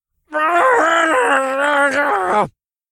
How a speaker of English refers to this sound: His ear-splitting scream was like an orgasmic symphony of the most beautiful music